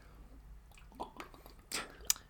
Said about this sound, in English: See, I can drink this because I'm not addicted to water.